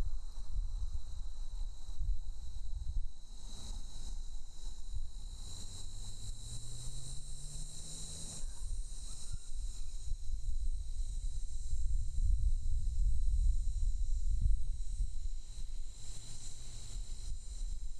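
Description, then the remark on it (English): A steady, shrill drone of cicadas and crickets chirping outdoors beside a road, continuous throughout, over a low rumble of wind and background noise. “Cicadas, crickets, the occasional bird I hear off in the distance.”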